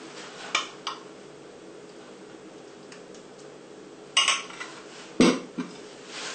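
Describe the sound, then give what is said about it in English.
Custard being spooned onto bread pudding in a dish, heard as a few sharp clinks of a spoon against the dish, two early and two louder ones later, over a quiet, steady background with no talking. “And now we're going to add some custard.”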